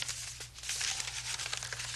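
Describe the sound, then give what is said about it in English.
Continuous paper rustling and crinkling as a paper piano roll is handled and loaded into a player piano, with small irregular crackles over a low steady hum and no talking. “You put the paper piano roll in here, and then you push this button.”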